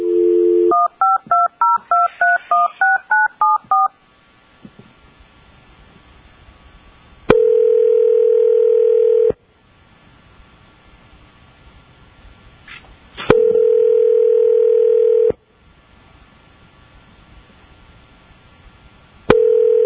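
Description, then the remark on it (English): A brief dial tone gives way to a quick run of about ten touch-tone keypad beeps as someone phones the complainant during a board hearing, followed by long, steady ringing tones that repeat every few seconds with quiet gaps between them. No voices. “And then we're getting the complainant on the phone.”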